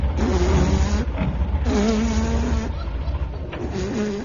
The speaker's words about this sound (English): At last, a car.